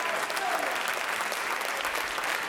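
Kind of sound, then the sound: crowd, audience clapping hands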